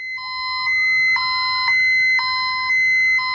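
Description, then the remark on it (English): A building fire alarm sounds loudly and steadily during a routine test of the alarm system, a shrill electronic tone pulsing in quick regular bursts about twice a second, with no voices. “The fire alarm test is now complete. Please pay attention to any future alarms and take action appropriately.”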